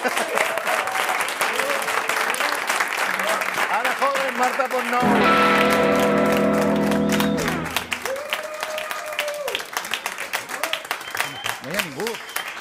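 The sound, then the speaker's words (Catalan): A crowd applauds steadily for about thirteen seconds, a dense crackle of clapping. Voices speak over it, and a sustained musical chord swells briefly in the middle. “M'està caient el cabell per moments, al fer aquesta secció i demanar aplaudiments.”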